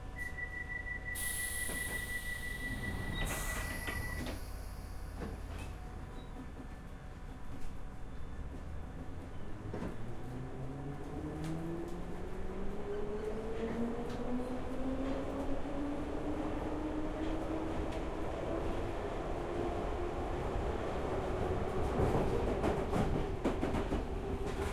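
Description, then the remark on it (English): A Piccadilly line underground train bound for Cockfosters pulls away from Hounslow West toward Hounslow Central, its steady rumble joined by a rising electric motor whine that climbs in pitch as it accelerates, loud, with no voices. “This is a Piccadilly line service to Cockfosters.”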